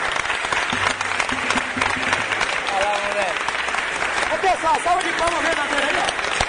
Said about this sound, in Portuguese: Salva de palmas mesmo, né?